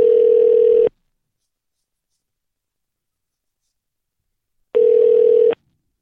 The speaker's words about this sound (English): Here we're calling. I hear ringing. Let's see.